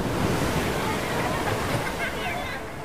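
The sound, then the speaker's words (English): A person drowning in heavy ocean surf after a rip current swept them out to sea on 7 January 2023: a dense, steady roar of crashing, churning water fills the whole stretch, with muffled voice-like sounds buried in the wash. “What you are about to hear is the sound of me drowning.”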